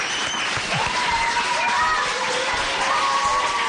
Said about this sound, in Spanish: ¿Le damos un aplauso al alcalde para despedirle? Venga.